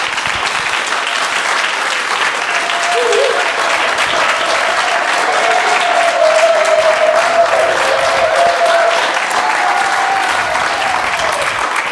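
Steady applause from an audience of about fifty people for the poets at an evening poetry broadcast, dense and loud with even crackling claps, while faint voices and a brief whistle-like tone rise faintly beneath the clapping.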